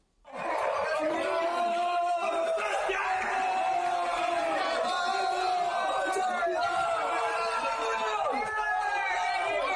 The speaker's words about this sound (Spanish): Ahí estaban los chavales gritando descontrolados.